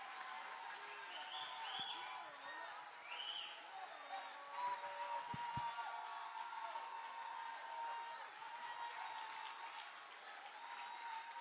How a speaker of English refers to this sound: Put a hand. Keep on putting your hand together for Jesus. Put your hand together for Jesus.